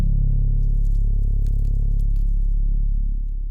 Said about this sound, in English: Somewhere in the distance is a strange hum, and a subtle sound like radio static.